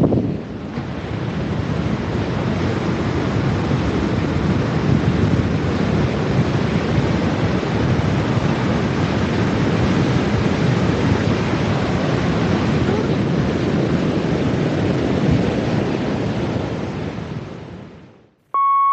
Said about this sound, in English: So I'm going to leave you the noise, hopefully of the sea, but it might just be a little bit of wind. Here is the Whitley Bay Sea.